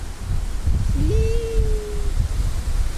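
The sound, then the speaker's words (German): Ocean waves make a steady, low, rumbling wash throughout, with no one talking. A brief, thin, whistling tone rises and holds for about a second partway through. “Ich glaube, die Wellen hört man trotzdem.”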